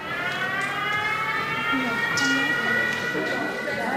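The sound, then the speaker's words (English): A loud, steady siren wails continuously with layered rising and falling tones, sustained throughout, with faint voices and background noise underneath, in Kyiv shortly after a show for an audience begins. “Within minutes, though, another siren.”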